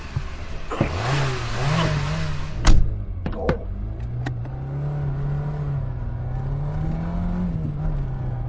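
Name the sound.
car driving and revving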